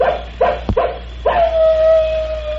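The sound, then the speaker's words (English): An old male wolf, Brindle, on a ridge gives a few quick, sharp yips, then breaks into one long, steady howl that holds its pitch. The sound is clear, with no one talking. “Say, we've got company. The wolves are out.”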